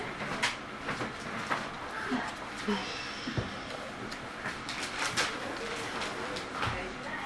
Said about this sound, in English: Let me just see if I could close the doors in there.